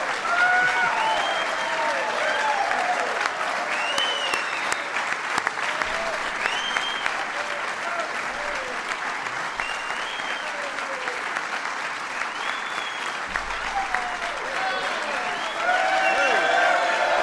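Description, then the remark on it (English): A crowd claps steadily for the whole stretch, a dense, loud patter of applause that never lets up, with a few faint calls and whistles rising above it here and there. “We're going to let him clap a little bit.”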